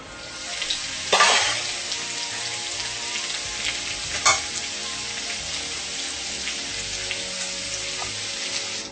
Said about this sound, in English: This is boiling, so it's gonna cook and you're gonna lower the temperature to the steam. You take about another 10 minutes and it's cooked.